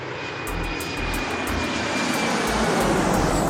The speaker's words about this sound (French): Attention les gars, on est bientôt arrivé à Paris. On est déjà à côté? Ouais, avec mon avion personnel, c'est assez rapide.